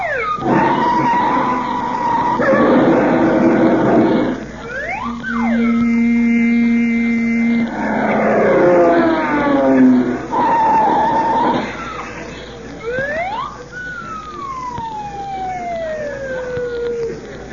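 Loud, busy traffic on Sunset Boulevard with long squealing tire skids, blaring horn-like tones and rising and falling siren wails overlapping one another for several seconds, with no voices.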